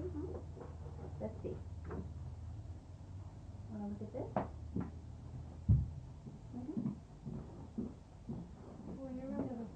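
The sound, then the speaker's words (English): A door is opened partway through, giving a single short knock-like thump against a low steady hum, with faint murmuring voices and small household noises around it. “I noticed that when you opened the door, it brought back old memories.”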